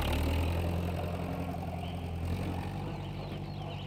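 A farm tractor engine on Appletree Farm, pulling a trailer of hay, runs steadily, a loud, low, chugging rumble that holds an even pace from start to finish with no voices over it.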